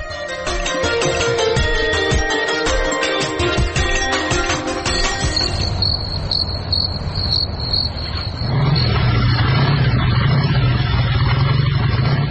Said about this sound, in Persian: قماندان سب، اون موتورسیکل آمد، حتما مواد مخدر بار کده.